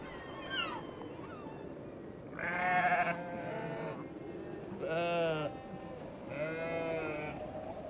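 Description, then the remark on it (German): Sheep grazing on a sea dike bleat three times in succession, each call a wavering, harmonic baa lasting about a second, over a low outdoor background with no talking. “Auf dem Seedeich grasen Schafe.”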